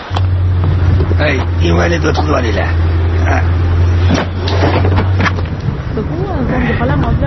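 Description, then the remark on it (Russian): A steady, low engine rumble fills the inside of a bus, with several people talking over it, in a scene from the film "Vorovka" (The Thief) as a blind man boards the bus; the drone drops away near the end while the voices continue. “В автобус садится слепой человек.”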